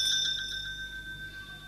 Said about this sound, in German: Das ist nicht etwa die Glocke, mit der der Theo die Menschen gerufen hat, zum Glauben zu kommen, sondern das ist eine Glocke, die dadurch zustande gekommen ist, dass viele Menschen geglaubt haben, dass sich in dieser Welt etwas ändert